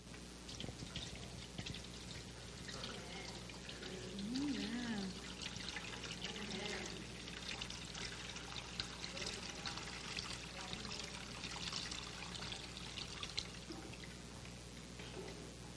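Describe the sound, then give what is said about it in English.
Water pours steadily into an overflowing container, a continuous splashing gush lasting the whole stretch at moderate volume, with faint voices murmuring in the background. “Now watch what happens when I'm abundantly overflowing by the Spirit of God, that out of my belly flow rivers of living water.”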